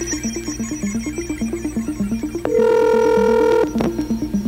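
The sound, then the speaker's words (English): A rapid electronic melody of short stepping tones plays, broken by a steady sustained tone about a second long, like a phone dialing and ringing through as a call is placed to a residence in Toronto; no one speaks. “We're now placing a don't say hello call to the E.B. Fleming residents of Toronto for $1,000 cash”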